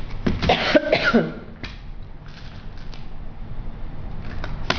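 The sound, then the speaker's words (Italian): A burst of harsh coughing, a few quick rough coughs, followed by a quieter stretch with faint throat noises and low background hum. “Scusatemi, ho la tosse.”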